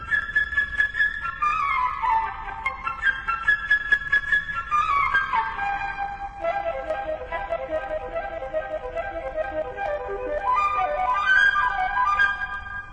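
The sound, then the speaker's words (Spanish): A flute plays the little bird theme in an orchestral tale where each character is represented by an instrument, a bright, quick melody of trills and darting runs that leap up and down, with soft orchestral accompaniment beneath it throughout. “El pajarito, por la flauta.”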